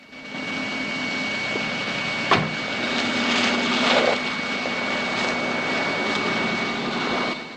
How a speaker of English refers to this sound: A private jet whines on a slushy runway.